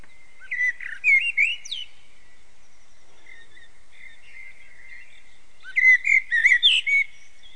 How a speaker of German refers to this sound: Hier, man kann sich natürlich auch eine Amsel anhören, das werde ich euch jetzt gleich mal zeigen. Ja, und diesen Ton von dem werde ich euch jetzt gleich mal vorspielen.